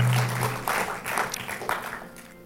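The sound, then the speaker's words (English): A church audience applauds God after a prayer, a dense wash of many hands clapping with a few louder swells and scattered cheers. A low sustained tone hums underneath, and the applause thins slightly toward the end. “Why don't we give God a huge round of applause?”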